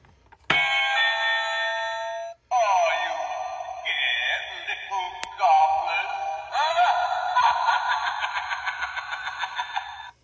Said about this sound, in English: And then my new doorbell.